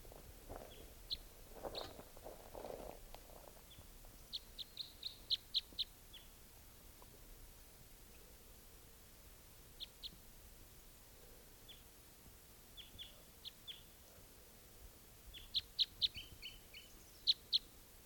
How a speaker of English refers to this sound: I've got the decoys out, and they've been out for about half an hour. And there's at least one wild bird here